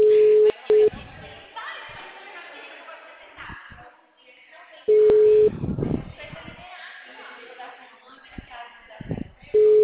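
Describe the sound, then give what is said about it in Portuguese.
A steady single-pitched telephone ringing tone from an outgoing phone call to a woman sounds in repeated short bursts, at the start, in the middle and at the end, with murmuring voices and background chatter between the tones. “Tô ligando pra ela, tá falando com ela no telefone, olha o que ela tem.”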